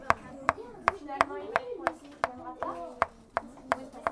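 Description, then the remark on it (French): A pen taps steadily on a table, about a dozen sharp, crisp knocks at an even brisk rhythm, with a voice murmuring quietly underneath. “Et pour répondre à vos sons mystères, on croit avoir entendu en premier un stylo qui tape sur une table.”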